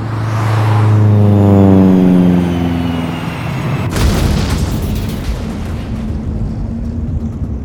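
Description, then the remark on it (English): A plane going down: its loud engine whine drops steadily in pitch for about four seconds, then a sudden booming explosion as it crashes gives way to a sustained roar of rumbling, crackling noise. “I see the plane now. Something's wrong. Hey. It's going down.”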